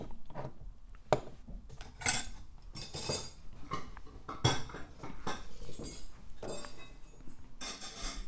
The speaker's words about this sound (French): Voici un verre pour fêter la grande avancée de notre enquête. Oui, trinquons.